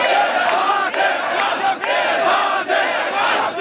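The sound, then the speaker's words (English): A massive crowd in Tahrir Square, Egypt, chants loudly and continuously, many voices blending into a dense, rhythmic roar with brief dips between shouted phrases. “Like so much of the Arab Spring history, Mohamed Morsi's tenure was punctuated by massive crowds in Egypt's famous Tahrir Square.”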